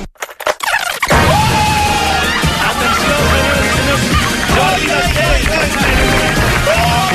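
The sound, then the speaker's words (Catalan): After a few scattered claps, a dense wave of audience applause fills Studio 1 of RAC1 while a woman's raised, shouting voice rings out loudly above it. “Només sent una senyora que crida, gent que aplaudeix.”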